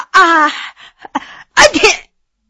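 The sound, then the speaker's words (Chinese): A performed sneeze: a drawn-out, rising 'ah-ah' vocal wind-up with a few short catches, then a loud, breathy burst to finish. A single voice, alone, imitating the sneeze. “他这一个喷嚏啊，把几位大臣都给打笑了。”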